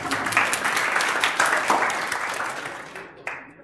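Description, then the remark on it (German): A church audience breaks into steady applause for its leadership, a dense wash of many hands clapping at fairly high volume that gradually thins and fades out near the end, with one last isolated clap. “Vielleicht können wir mal einen Applaus geben für die Leitung.”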